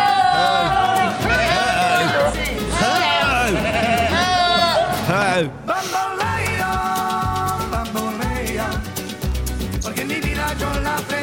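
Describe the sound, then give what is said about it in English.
A goat bleating sound effect, the "Who Goat": a goat bleats loudly again and again, its quavering cries overlapping for several seconds before a brief pause and a dense, steady backdrop of noise. “Can we have the Who Goat, someone says in the gap?”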